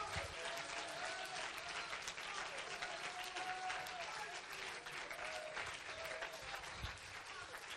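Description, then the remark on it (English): An audience claps their hands in a dense, steady wash of applause lasting the whole eight seconds, with faint voices murmuring and calling out underneath. “All clap your hands and lift up your voice.”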